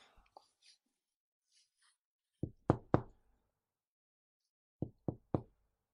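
Two bursts of three firm, sharp knocks on a door, separated by a couple seconds of silence, after a few faint rustles at the start.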